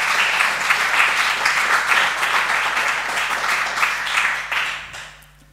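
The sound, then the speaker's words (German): An audience applauds Jesus together, a dense, steady wash of many hands clapping at full volume for about five seconds before quickly fading out. No one speaks over it. “Und für diesen Sieg dürfen wir Jesus mal einen Applaus geben.”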